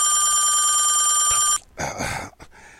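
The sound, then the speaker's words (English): A loud, steady electronic telephone ring sounds for about a second and a half, then stops abruptly and gives way to a brief burst of rustling noise. “You calling women at night at 3 o'clock in the morning, waking up, playing music on the phone, breathing.”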